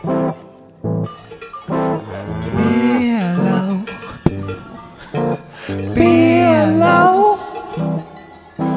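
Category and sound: animal, cow mooing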